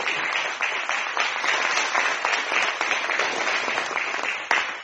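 A church audience claps steadily for several seconds in applause to the Lord, a dense, sustained wash of applause with no clear individual rhythm, ending with a few sharper claps near the end.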